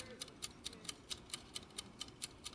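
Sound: clock ticking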